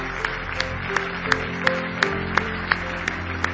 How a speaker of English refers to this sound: Now give Jesus another big hand clap of praise.